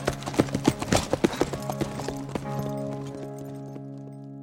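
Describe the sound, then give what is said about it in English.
Horse hooves clip-clop in a quick, rhythmic gait, sharp at first, then fading as the horse lopes away, leaving a low sustained tone behind. “With that, the rancher mounted his horse and loped away.”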